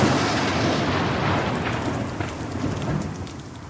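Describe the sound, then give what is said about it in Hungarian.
A low, continuous thunder rumble rolls beneath a dense hiss of heavy rain, holding steady and then easing off slightly toward the end. No voices. “Nem bírom a dörgést, de legalább nem hallgatnak ki bennünket.”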